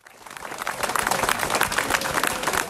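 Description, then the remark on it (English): A large crowd cheers and claps continuously at the finish line of an annual march in the Netherlands honoring soldiers, in 2019, a dense, lively wash of applause with scattered voices rising through it, growing slightly louder over a few seconds. “As I was walking toward the finish line, there was cheering and flowers and joy and dancing.”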